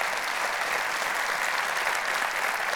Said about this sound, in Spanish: Y cuando la gente pierde el enfoque, un aplauso a Dios y se lo va a dar, Él se lo merece.